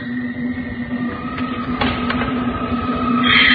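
A door on the third floor opens with a few short latch clicks and knocks over a steady mechanical hum, followed by a rising hiss of air or movement at the end.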